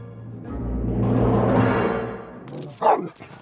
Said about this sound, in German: Still! Hörst du nicht? Still! Still! Guter Hund.